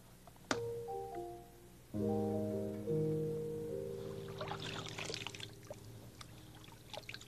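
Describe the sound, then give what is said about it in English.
Clean water being poured out for potting a plant pours and trickles with a splashy, uneven patter for the last few seconds, following a few sustained, soft musical tones that linger underneath. No one speaks. “This is nice clean water. I'll use it for potting this plant.”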